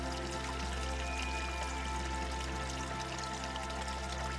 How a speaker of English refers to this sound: You pause for just a moment, listening to the gentle gurgle of the water, a natural lullaby that soothes the soul.